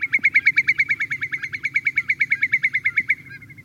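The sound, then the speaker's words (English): A shorebird gives a long, rapid series of sharp, whistled piping notes, about six per second at a steady clip, loud and even throughout, over a low background rumble, at a marsh by Long Beach in the Stewart B. McKinney National Wildlife Refuge. “Whether they're beach foraging shorebirds like sanderlings or red knots or dunlins, or whether they're marsh foraging shorebirds like whimbrels, there's some habitat for them here.”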